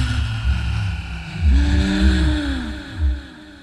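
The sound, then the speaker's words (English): A TARDIS materialisation sound: a deep, wheezing groan that swells and sinks in pitch in repeated waves over a low throbbing rumble, with no voices. “That sound. What is that sound? I remember. When the doctor linked up with... No, you Truman. Crouch. The TARDIS. It's the TARDIS!”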